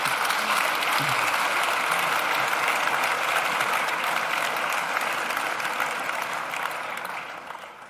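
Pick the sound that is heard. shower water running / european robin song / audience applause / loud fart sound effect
audience applause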